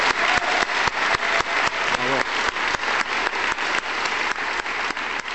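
A crowd gives a final round of applause to the speakers, a dense wash of many hands clapping at an even, loud level throughout, with a brief voice-like murmur rising under it near the middle.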